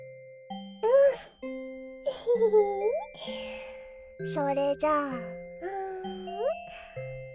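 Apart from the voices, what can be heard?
chime ringing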